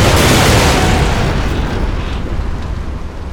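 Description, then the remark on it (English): Heavy artillery fire and explosions from an aircraft's howitzer, Vulcans and Bofors guns merge into a loud, continuous roaring barrage with a deep rumbling low end, slowly easing off over a few seconds. No voices are heard. “Combo howitzer, Vulcans, and Bofors opened up with a sound and fury they might have heard all the way to Bahrain.”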